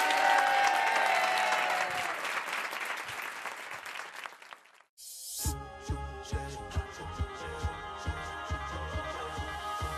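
A studio audience applauds steadily for about five seconds, the clapping thinning out before it cuts to a music jingle with a regular thumping beat.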